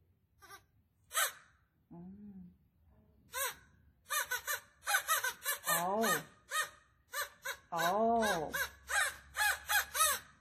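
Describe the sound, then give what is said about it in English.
A black Australian crow in Australia gives several drawn-out, wailing caws that fall in pitch, clear, with a busy patter of sharp chirps and clicks around them. “Definitely Australian crows are not pink”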